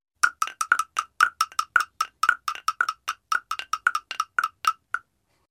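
bells ringing

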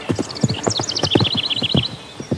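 horse galloping hooves

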